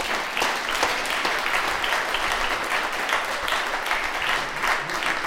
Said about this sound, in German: Klatscht mal bitte.